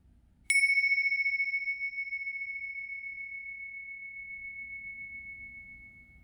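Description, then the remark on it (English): A single meditation bell is struck once to start a meditation exercise, its clear, pure tone ringing out loudly and then slowly fading over several seconds in otherwise quiet surroundings. “As soon as you hear the bells, we'll start the exercise.”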